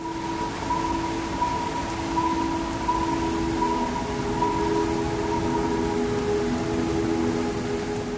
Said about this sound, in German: Es folgen 3 ineinander gleitende Songs, in denen man Aufnahmen aus Ecuador hört. Regen, der von Synthesizerflächen und Vogelgezwitscher begleitet wird.